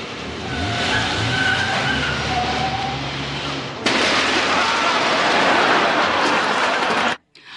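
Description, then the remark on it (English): A car engine roars indoors with harsh, hissing tire skids building into a loud continuous screech, which stops abruptly near the end. “you know I don't allow cars in here.”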